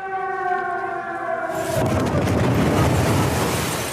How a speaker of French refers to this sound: L'explosion vient de se produire.